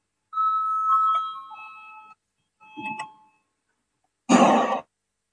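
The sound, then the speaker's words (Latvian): A parliament voting bell chime, rung before a vote on a legal affairs committee proposal, rings out clearly for about two seconds with a sustained electronic tone, then a short thud and a brief burst of rustling noise follow. “Lūdzu, zvanu, balsosim par 19. juridiskās komisijas priekšlikumu.”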